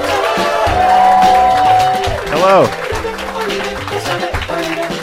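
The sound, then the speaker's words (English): A crowd cheers and claps steadily at the start of the show Love It or Leave It, with a sustained whoop rising out of the noise, and a single voice briefly calls out a greeting over the ongoing audience din. “I want applause, people.”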